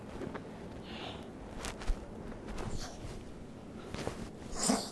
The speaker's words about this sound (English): Gesundheit.